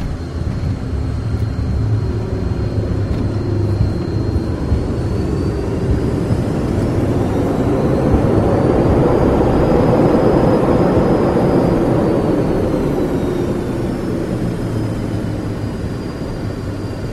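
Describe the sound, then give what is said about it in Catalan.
A spacecraft engine roars steadily as it comes in to land on Earth, swelling louder midway and then easing off, with a thin high whine gliding above the deep rumble. “La nau ja està aterrant.”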